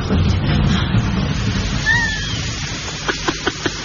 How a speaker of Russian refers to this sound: Маэстро, кажется, дождь собирается.